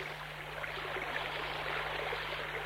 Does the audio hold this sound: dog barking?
no